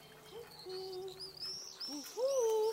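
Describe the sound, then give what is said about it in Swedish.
Several soft, owl-like hoots made by a grandmother, not an owl, with gently gliding tones, joined by thin, high whistling notes over a quiet background, with no talking. “Då hör vi något som hoar. Hör du ugglan?”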